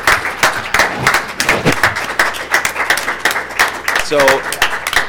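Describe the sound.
An audience applauds with steady, dense clapping that fills the whole stretch, with a few voices calling and cheering faintly beneath the clapping.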